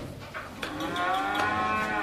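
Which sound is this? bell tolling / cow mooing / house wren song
cow mooing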